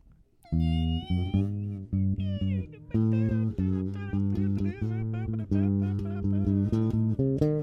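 A bass guitar plays a bright, bouncy line of sustained notes in a steady rhythm, meant to sound like a sunny day. It is loud and alone after a brief quiet start, with some higher melodic slides over the low tones.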